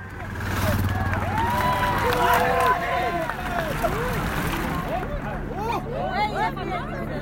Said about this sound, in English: The sound of the cobbles is unmistakable. So too is the roar of the fans as the victor raises the Pavé trophy above her head. The sights and sounds of Paris-Roubaix are etched into our minds.